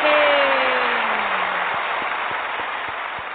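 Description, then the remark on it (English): A dense wash of crowd applause starts loud and slowly fades, with a falling whistle-like tone at the start and a few distinct, evenly spaced claps standing out near the end. “Oh, and for that, you know, you get a round of applause.”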